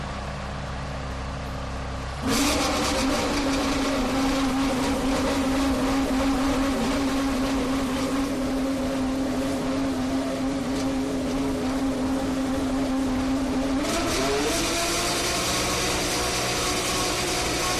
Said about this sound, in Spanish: Debatiremos sobre eso porque lo que tenemos ahora sobre la mesa es el nuevo McLaren que ruge ya así su motor Renault.